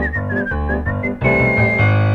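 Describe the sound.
A bright, bird-like whistled refrain carries a short melody over a full, steady instrumental backing, loud, with no voices.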